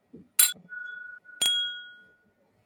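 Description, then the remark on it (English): Glasses of ten-year-old wine clink together twice in a toast, each strike bright and sharp with a high ringing tone that lingers and fades, and a soft murmur of voices around them. “One, shall two, we clink?”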